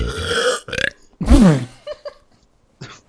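Two loud burps in quick succession, the first raspy and drawn out, the second deeper and more resonant, followed by a few faint trailing sounds.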